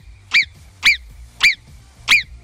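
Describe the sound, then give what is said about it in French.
A voice imitates a marmot's whistle on Radio Mont-Blanc: four sharp, shrill calls repeated at a steady pace about half a second apart, loud, with no talking in between. “Il faudra, quand je vais vous rappeler à 9h30, nous faire le sifflement de la marmotte.”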